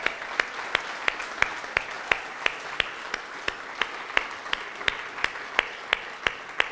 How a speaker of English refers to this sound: So let's give them a round of applause.